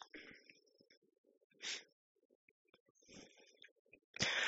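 Quiet, deep breaths drawn in and pushed out in a few separate bursts during a meditation exercise, with a stronger rush of air at the end, over faint low background murmur.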